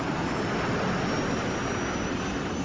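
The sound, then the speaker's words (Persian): Helicopter engines run with a steady, dense turbine roar that fills the whole stretch without easing or changing pitch, loud, with no voices, as the helicopters begin refueling on a colonel's order. “به دستور سرهنگ بالگردها کار سوختگیری را شروع کردند.”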